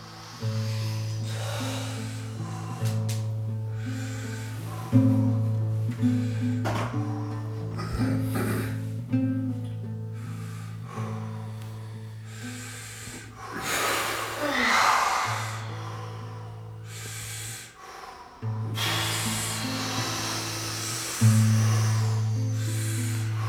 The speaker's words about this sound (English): Very soft and gentle breathing through the nose. We'll build it up later.